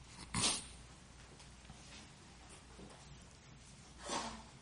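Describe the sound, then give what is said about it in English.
Two sharp, noisy sneezes break a quiet background, the first abrupt and loud, the second a few seconds later and slightly softer. “You know why people say, God bless you, when people sneeze?”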